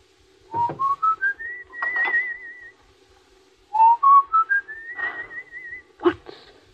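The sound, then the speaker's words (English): A person whistles a short tune twice: a rising run of notes climbing to a long wavering held tone, a pause, then the same phrase again, with a sharp knock near the end. “That you're whistling. That? Just a song.”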